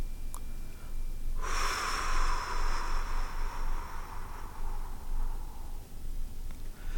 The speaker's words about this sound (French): Inspirez et commencez par vider totalement vos poumons sur une longue et profonde expiration avec la bouche, en allant le plus loin possible dans votre expulsion de l'air.